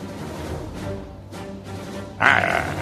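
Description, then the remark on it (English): An animal growls in low, rumbling grunts that rise into a louder, harsher snarl near the end, a continuous guttural sound with no talking over it. “Growling at me.”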